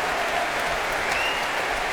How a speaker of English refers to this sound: And the Russian National Orchestra celebrating their 20th birthday this season. Applause for section principals now, the oboist